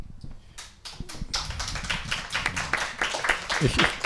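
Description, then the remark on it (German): An audience applauds a political speech on the challenges and goals of the European left, starting with a few scattered claps that build into dense, sustained clapping from a crowd, with some faint voices mixed in. “Ich glaube, es gibt zu Recht Beifall, weil das große Herausforderungen sind und große Ziele, und auch gerade, weil du das Stichwort European Forum genannt hast, was ja wirklich eine große Errungenschaft ist”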